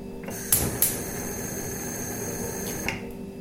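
A refrigerator hums steadily with a low, even drone that never changes. A few brief, sharp clicks pop over it near the start and once more near the end. No one speaks.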